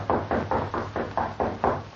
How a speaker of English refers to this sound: Then he replaced it carefully on the wall, just as a light knock sounded at his door.